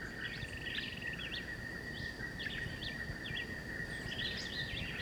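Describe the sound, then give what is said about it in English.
A John Chewitt vireo about 30 meters away repeats short, chirpy whistled phrases, mixed with woodpecker calls. Both sound faint over a steady, high insect drone and a low rumbling background. No one speaks. “So there's both John Chewitt and the woodpecker here.”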